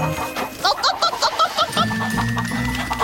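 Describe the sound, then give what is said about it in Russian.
Chicks clucking in a quick run of short, repeated calls, fairly loud, settling into a steadier murmur toward the end. “Внимание, цыплята!”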